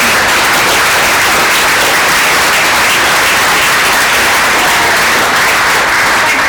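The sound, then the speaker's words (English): An audience breaks into sustained, loud applause for the panellists, a dense wash of many hands clapping steadily for several seconds without any talking. “But let's give our panellists a massive round of applause.”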